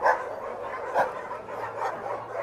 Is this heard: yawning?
no